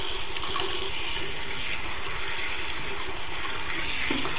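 Very hot water pours steadily from a tap, a continuous rush and hiss that holds at an even level for the whole stretch, with no voices.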